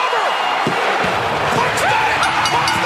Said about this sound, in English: Ladies and gentlemen, a partisan hometown crowd for CM Partisan. Are you kidding me?